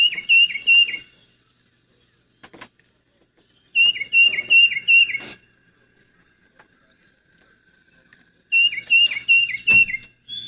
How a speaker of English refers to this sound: That one, of course, is the tufted titmouse. That's repeats Peter, Peter, Peter over and over. They're, you know, sometimes they get up early and start singing it, and sometimes they let you sleep in a little bit.